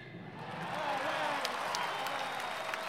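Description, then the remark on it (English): A large outdoor golf crowd roars and applauds as Nicklaus taps in his final putt for par, a sustained wash of cheering and clapping that swells and holds steady, with occasional sharper claps cutting through. “The crowd roars as he taps in his final putt for par.”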